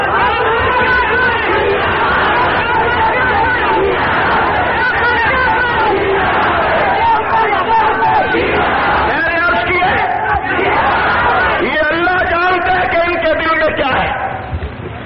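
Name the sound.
crowd chanting slogans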